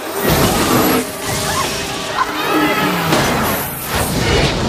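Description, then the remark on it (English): A sustained, loud roar of crashing and scraping metal as a section of a car crashes into buildings in a city and ricochets off them on its way to the ground, with repeated heavy impacts and whooshing swishes, continuing without pause for several seconds. “section of the car crashes into buildings and ricochets off them on its way to the ground.”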